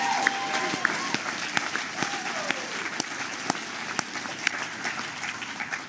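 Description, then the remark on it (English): A crowd breaks into sustained applause for the host committee, dense overlapping claps at a steady, fairly loud level for several seconds, with faint cheering or a short whistle rising through the clapping. “And so can we get another round of applause for the host committee, please?”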